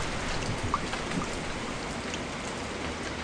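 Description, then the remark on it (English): Steady rain pours down in a dense, even hiss that fills the whole space, with scattered droplets pattering. No voices, just continuous rainfall from start to finish. “Who is that standing over there in the rain with his travel bags?”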